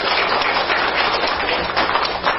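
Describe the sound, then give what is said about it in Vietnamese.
A crowd at Pháp Hoa Buddhist temple claps together to welcome a venerable monk lecturer, a dense, steady crackle of applause, sustained and fairly loud throughout with no pauses or voices. “Xin quý vị cho một tràng pháo tay thật to thật dài để chúng ta cùng chung lên Hòa thượng.”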